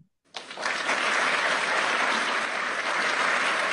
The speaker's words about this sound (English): That sounds like a thunderous applause.